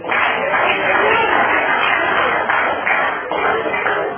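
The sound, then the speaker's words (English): Audience applause for the old-timers, a dense, steady wash of many hands clapping at once, loud and sustained for the full few seconds with no speech over it. “Can we have another hand of applause for all of our old-timers today?”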